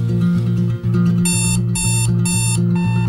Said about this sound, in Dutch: 6:00 AM. Wekker gaat af.